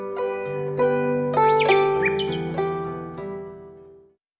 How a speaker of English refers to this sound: we hear songs about songbirds as they tune up for the mating season, and some English bird song as well.